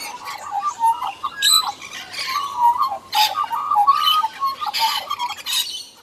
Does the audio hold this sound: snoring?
no